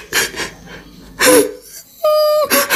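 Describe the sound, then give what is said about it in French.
A voice imitates a mare crying and sobbing: loud gasping sobs in bursts, then a drawn-out wailing moan before one more sobbing breath. “C'était une jument qui pleurait à chaudes larmes.”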